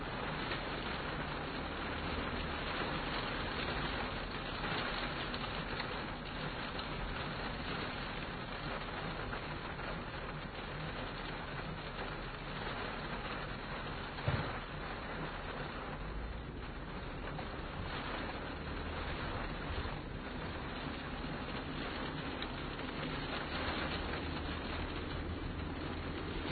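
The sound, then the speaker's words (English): Steady rain falling outdoors on a warm night, a continuous, even hiss of drops without letup, moderately loud, with one brief knock partway through and no voices. “I imagine the sound of rain is something that we've all heard before.”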